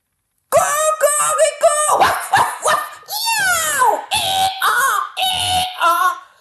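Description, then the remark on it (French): An audience imitates a cat, a dog, a donkey and a rooster all at once, with meows, barks, braying and crowing overlapping in a loud, continuous, chaotic burst lasting several seconds. “Certains vont faire le chat, d'autres le chien, d'autres l'âne, d'autres le coq.”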